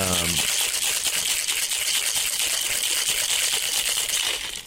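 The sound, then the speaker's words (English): Ice from the Dead Rabbit bar rattles hard inside a glass-topped Boston shaker, a loud, dense, rapid clatter that keeps a steady rhythm for about four seconds after a brief voice at the very start. “A Boston shaker, glass top, because, naturally.”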